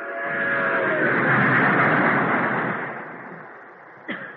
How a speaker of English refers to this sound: I couldn't help thinking back to Decatur, to how my mother would come home at night so tired, to that miserable apartment which shook as if it were part of the rattle of the trains that passed.